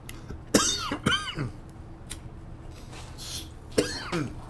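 Harsh coughing after drinking Krampus schnapps: two quick coughs in a row, a short gap, then a third, with faint breathing between them and no talking.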